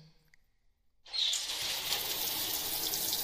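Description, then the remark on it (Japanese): After a moment of near silence, water rinsing foam off a person's face during a hair shampoo starts abruptly: a steady hiss of running spray that carries on evenly to the end, with no voices. “先にお顔の泡を流します。”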